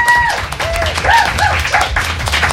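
A crowd bursts into steady, dense applause, many hands clapping close together, with a few high whistles and cheers rising over the clapping.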